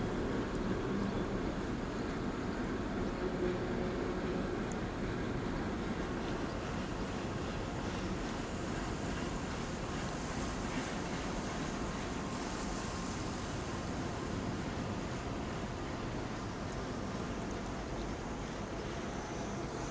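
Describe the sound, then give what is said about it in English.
A steady, dense rumble of train and road traffic in a little town fills the scene, a continuous low wash of noise with no pauses and no voices. “All the train breaks and the traffic isn't so much on a day like today.”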